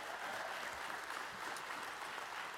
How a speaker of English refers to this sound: That clap was weak. You could give him a round of applause. He conquered the grave.